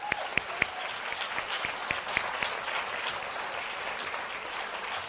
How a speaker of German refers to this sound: Applaus